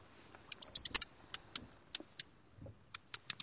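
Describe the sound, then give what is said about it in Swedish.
Sharp, dry ticking calls from a small bird such as a robin or wren, coming in quick bursts of clicks separated by short pauses, clear with no other sounds. “Så här års kan man också höra en del knatter och knäppningar.”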